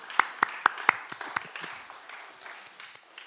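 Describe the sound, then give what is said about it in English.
A small audience breaks into applause for a helper, opening with a few sharp, evenly spaced claps before settling into a softer, scattered patter of many hands that gradually fades. “Can we give him a big round of applause so he knows to come back?”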